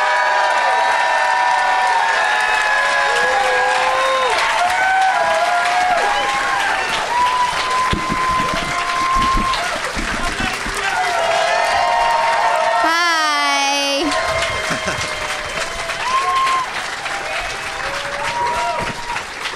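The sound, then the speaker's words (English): An audience applauds steadily as comedians four performers are brought out, with scattered whoops and cheers rising above the clapping. A brief high whistle cuts through near the middle. “So let's get them out here. Please give it up for …”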